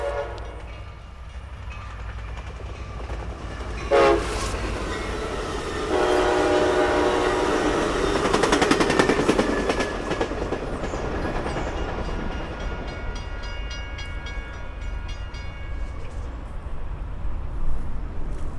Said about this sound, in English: Yep, that was it. 10 seconds to measure, and then all over. When I checked in with them later, they told me that even though the train was moving pretty fast, because it doesn't go by all that often,